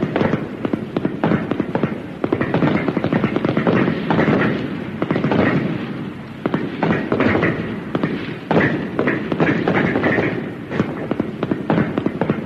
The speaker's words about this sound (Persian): آفرین، تمرین تیراندازی دیگه کافیه.